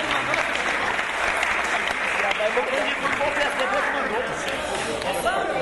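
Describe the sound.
Steady, dense applause from a crowd, many hands clapping continuously at a fairly loud, even level throughout, with scattered voices and cheers mixed into the clapping.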